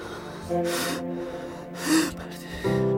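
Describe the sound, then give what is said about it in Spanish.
Two or three sharp, ragged gasps come in quick succession, close and fairly loud, with a tense voiced catch in the throat between them, like someone panicking and short of breath. “Su respiración se acortaba a medida que veía y escuchaba lejos a Martín y Brenda.”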